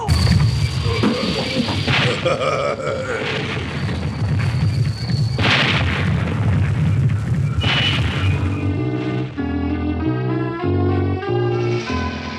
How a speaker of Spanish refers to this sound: En este momento, el siniestro doctor Kiro da la orden. ¡Disparen! ¡A discreción! ¡Derrumban el helicóptero antes de que pueda dar aviso! ¡Fuego! ¡Fuego graneado!